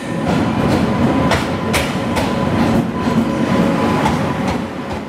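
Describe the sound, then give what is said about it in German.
A passenger train in India rolls steadily along the rails, its wheels clacking in a loose, repeating rhythm over a dense low rumble, loud throughout with no voices. “Die Durchschnittsgeschwindigkeit der meisten Züge liegt unter 50 km/h.”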